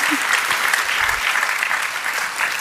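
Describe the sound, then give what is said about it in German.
Steady audience applause, a dense wash of many hands clapping continuously at a fairly loud, even level throughout, with no clear voices standing out. “Einen Applaus bitte für die vielen Antworten und das Wissen.”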